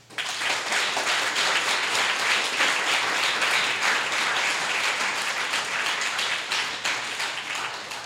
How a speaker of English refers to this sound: Thank you, ladies and gentlemen. Let's give a round of applause to all of our writers and our readers for tonight.